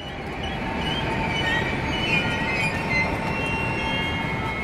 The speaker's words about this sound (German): Vormittags 9:30 im Berliner Hauptbahnhof. Der ICE hat seit einiger Zeit ein Fahrradabteil.